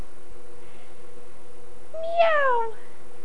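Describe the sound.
A single drawn-out meow, voiced by a person imitating a cat, rises then slides down in pitch near the end, clear over a steady low background hum.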